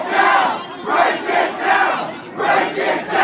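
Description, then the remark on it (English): A crowd of protesters inside the Capitol, in a tight gathering blocked by doors, shouts at the police together in loud, rhythmic bursts, roughly one chant every half second, voices massed and ragged with no single speaker standing out. “ends up in a tight gathering, blocked by doors, and fellow protesters were screaming at the police.”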